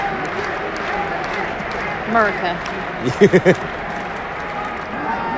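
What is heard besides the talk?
wrestling crowd cheering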